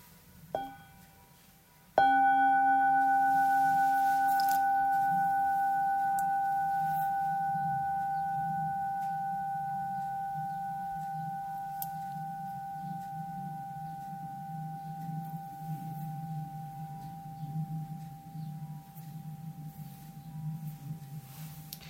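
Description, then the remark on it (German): A mindfulness bell is struck once after a light preliminary tap, producing a clear, sustained ringing tone with steady harmonics that slowly fades over about twenty seconds, with no talking. “Ja, wir hören noch einmal einen Klang der Glocke.”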